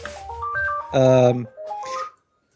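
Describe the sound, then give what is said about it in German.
A phone ringtone plays: a quick electronic melody of stepping tones, a louder buzzy chord in the middle, then the melody repeats briefly before stopping. Clear, no talking. “Das Telefon klingelt.”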